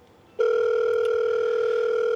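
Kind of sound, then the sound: signal or alarm, telephone dial tone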